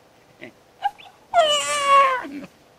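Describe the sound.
A person imitates a dog, a few short soft grunts followed by a drawn-out, whining howl-like cry lasting about a second.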